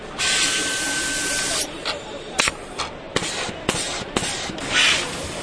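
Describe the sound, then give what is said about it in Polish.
A label printer and applicator labelling products: it prints a label, takes it up and waits for the arriving product, labelling it when a sensor detects it. A steady hiss of air with a faint whine for over a second, then a series of sharp mechanical clicks and short bursts at irregular intervals. “Drukarka drukuje etykietę, pobiera ją i czeka na produkt, który podjeżdża.”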